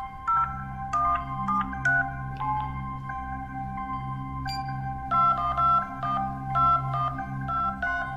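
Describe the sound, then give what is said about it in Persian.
A telephone rings with an electronic, melodic tone while dialing into an FBI conference call, a steady pattern of bright beeping notes repeating over a low, continuous hum, with no voices. “کنفرانس تلفنی اف بی آی، صحبت راجع به عملیات براینستین.”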